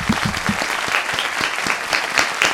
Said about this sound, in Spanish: Un aplauso para todos nuestros invitados.